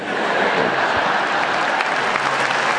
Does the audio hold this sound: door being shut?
no